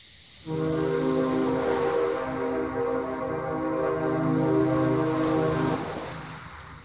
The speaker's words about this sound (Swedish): Och mistluren hörs, 2 ganska hotfulla mistlurstutor.